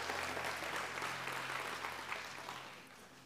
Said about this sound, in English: Can you give the Lord another hand clap of praise as you're being seated? Amen.